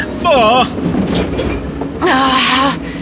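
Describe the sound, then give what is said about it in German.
A train's doors closing as it begins pulling away: a steady rail rumble with two loud bursts of warbling, whining tones about two seconds apart. “Die Türen haben sich direkt vor unserer Nase geschlossen.”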